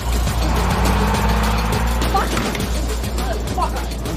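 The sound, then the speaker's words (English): A bus engine rumbles steadily as it pulls away, a deep continuous drone with light clattering and faint background noise over it. “She pulls her on and the bus leaves.”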